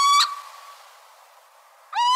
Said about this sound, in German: Das war der Steinkauz, der zwar klein ist, aber eine mächtige Stimme hat.